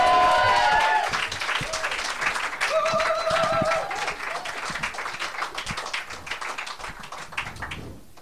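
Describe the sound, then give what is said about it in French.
An audience bursts into sustained, dense applause for a performer about to do slam poetry, lasting several seconds, with a few high whistles or cheers rising over the clapping early on, before it gradually thins toward the end. “Et bon, on va lui faire un grand tonnerre d'applaudissements.”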